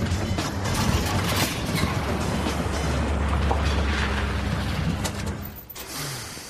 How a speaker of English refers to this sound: I hear an engine.